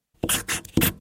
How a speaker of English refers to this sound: This is the sound of her writing a capital A.